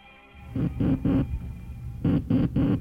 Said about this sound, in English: Those sounds, ladies and gentlemen, were a simulation of the letter S in Morse code, which were the first sounds to be transmitted across the Atlantic Ocean by wireless telegraphy by the late Senator Guglielmo Marconi.